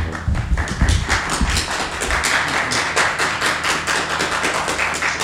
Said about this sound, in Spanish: Qué de aplausos, madre mía.